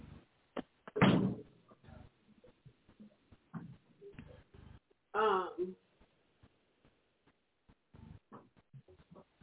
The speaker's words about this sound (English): Did you close the door? Hold on, let me close these doors.